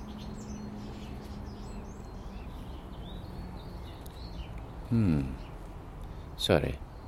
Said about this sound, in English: There was a stramash over in the park there between blackbirds, I guess one's intruding in others' territory, but that's the most vicious chase I've seen yet.